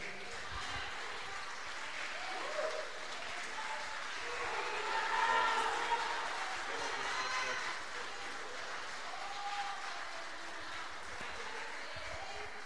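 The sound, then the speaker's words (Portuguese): An audience applauds the Lord, clapping steadily for about twelve seconds, a dense, even wash of applause that swells slightly in the middle, with scattered voices and cheers mixed into the crowd noise. “Aplauda ao Senhor.”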